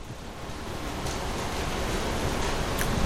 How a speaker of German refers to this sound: Ich warte einen Moment, damit die Bibeln rauschen.